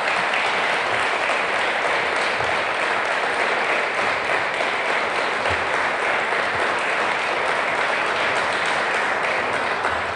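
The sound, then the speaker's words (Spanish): Sustained, loud applause from an audience, a dense crackle of many hands clapping steadily for about ten seconds without pause or voices on top. “Tampoco aplaudo tanto porque me voy a emocionar”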